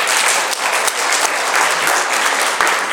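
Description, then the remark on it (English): A crowd of people clapping steadily, a dense, loud wash of applause that holds at an even level throughout with no voices breaking through. “I think a round of applause for problem prevention.”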